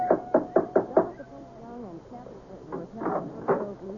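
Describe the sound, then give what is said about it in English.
Five quick, evenly spaced knocks from a big brass knocker on the front door of a house, each with a short metallic ring, then a person starts talking once the knocking stops. “There was a big brass knocker on the front door.”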